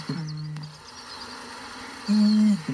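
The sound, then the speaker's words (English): Two deep, resonant booms of a male bittern at night, made by sucking air in with short, sharp breaths and slowly releasing it, each a low hollow hoot lasting under a second, separated by a pause, over faint night ambience with insects buzzing in the background. “It's a bit like pumping up a football, and then slowly releases it in that magnificent, deep, rich, bassy call into the night.”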